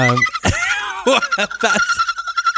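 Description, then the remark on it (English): A person imitates a dolphin with a run of high, squeaky whistles and chirps, some sweeping up and down in pitch, broken by short clicky bursts, loud and without any talking. “that's a dolphin. That's a dolphin.”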